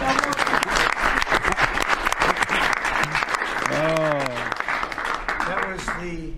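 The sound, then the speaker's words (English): Members of the press in a room claps steadily for several seconds, dense, after a Columbus Day announcement, while a few voices call out over the applause toward the end. “The press actually broke out in applause.”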